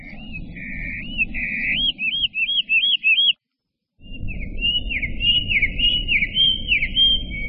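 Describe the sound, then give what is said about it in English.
Two slowed-down hermit warbler songs, examples of two different song dialects, play back to back, separated by a short silence, each a string of repeated swooping, whistled notes over a low rumbling background. “Here are just two examples of dialects. Slow down for easier comparison.”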